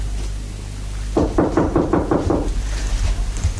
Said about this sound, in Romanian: ai simțit că sunt eu după ciocănitură? Nu, am văzut pe fereastră, prin oglindă.